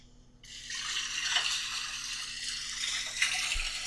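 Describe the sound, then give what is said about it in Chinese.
A tap switches on and runs in a steady, hissing stream of water as dishes are being washed, with a brief clink of dishes near the end and no one speaking. “没什么，我帮你洗碗吧。”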